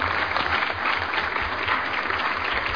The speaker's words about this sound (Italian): Presenti 32, votanti 32, favorevoli 32, il Consiglio approva all'unanimità e direi facciamo un bel applauso.